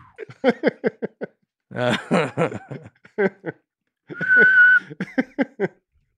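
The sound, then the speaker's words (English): Bursts of snickering laughter surround a short, steady whistled note held for about half a second, fairly loud, before the giggling resumes. “And when you jumped into the other thing, I'll bring in the whistle.”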